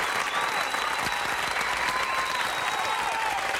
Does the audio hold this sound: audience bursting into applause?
yes